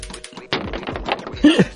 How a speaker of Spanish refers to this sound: Tiramos de nuevo dados. Lo que da de sí el juego de la oca, ¿eh?